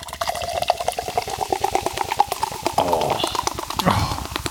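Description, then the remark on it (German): A bottle of cider is opened and poured into a glass, with a steady, rhythmic glugging and gurgling that shifts in pitch near the end; no voices are heard. “Dann mache ich mal wieder auf.”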